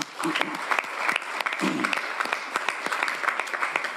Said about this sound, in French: Bon, bravo, hein, on peut applaudir quand même.